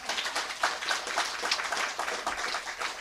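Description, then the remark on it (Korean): A crowd applauds steadily, a dense wash of many overlapping hand claps at an even level throughout, with no speech over it. “대단하면 박수 한번 쳐야죠.”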